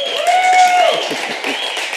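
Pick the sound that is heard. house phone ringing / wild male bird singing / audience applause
audience applause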